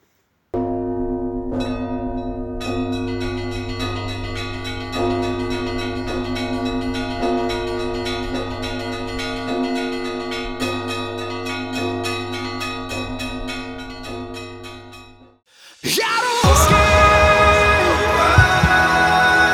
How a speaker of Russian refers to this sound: Каждый раз, сокрушая своих врагов на зависть миру, оповещая его колокольным звоном о победах своих.